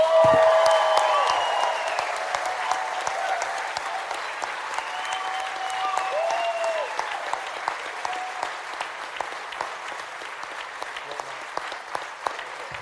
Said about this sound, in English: Amazing. Let's keep the cheers going.